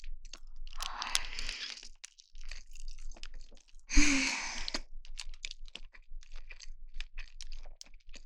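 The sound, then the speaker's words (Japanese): Crunchy chewing, with repeated crisp bites and mouth sounds in a steady rhythm, plus a louder breathy burst midway. No talking, just eating noises. “じゃあ、黙って食べるので、咀嚼音が好きな人用に、ここら辺で食べます。”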